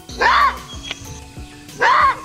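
Two loud, harsh barking calls of a maned wolf (aguará guazú) in the Chaco bush, separated by a pause of over a second, each a short rasping roar-bark rising and falling in pitch, with quiet background noise of wind and leaves between them.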